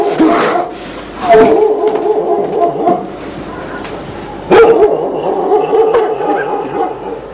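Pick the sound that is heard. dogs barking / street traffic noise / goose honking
dogs barking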